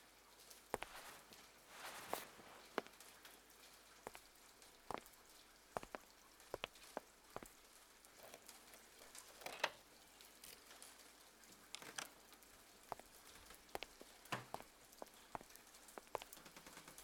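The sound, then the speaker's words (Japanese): Rain patters steadily outdoors in cold weather, with scattered sharper drips and taps standing out against a soft, continuous hiss. No one speaks. “外は雨で寒くなってきていますから、温まるだけでも。”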